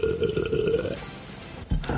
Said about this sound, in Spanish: Ahí está el sorbito.